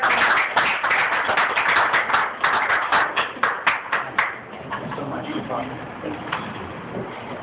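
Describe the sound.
A small audience at an Alcoholics Anonymous meeting claps for several seconds to welcome a speaker, a dense patter of hands that thins out and fades, followed by quiet murmur and a few voices.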